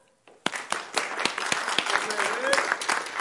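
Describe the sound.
Applause from an audience begins with a few sharp claps and quickly swells into steady, dense clapping, with some voices cheering faintly underneath.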